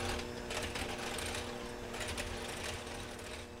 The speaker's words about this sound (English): So then I'm using a hand mixer and I'm mixing the water, spice, and persimmon together.